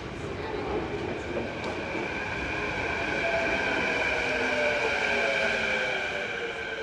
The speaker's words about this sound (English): It's 7 in the morning, and one of Vancouver's newest attractions is packed. Okay, the Canada Line is more of a necessity than an attraction. This new light rail system was built just for the Olympics, and it's been busy since it opened in December.